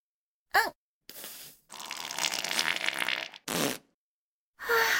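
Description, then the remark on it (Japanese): A run of farts, five in all: a short pop, a brief rasp, a long sputtering blast, then two more quick bursts. They are fairly loud, with short silences between them and no talking. “おなら出た。”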